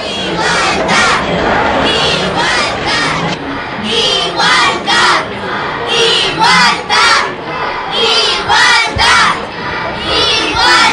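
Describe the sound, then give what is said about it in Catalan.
A large protest crowd sitting in and occupying the streets shouts slogans in loud, rhythmic unison, the chants rising and falling in repeated bursts against a constant roar of voices, forceful throughout. “La sentada que ocupa els carrers respon i amb crits ben potents.”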